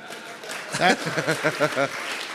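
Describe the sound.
A short burst of audience applause at a question-and-answer session, given for a one-word answer. A steady patter of clapping continues throughout, with a few voices calling out over it in the middle.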